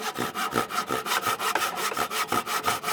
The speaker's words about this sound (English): He said the chiseling has been the most interesting part. It's cool how it breaks all the wood off. And then you can just, I like it how it just goes all up in the air.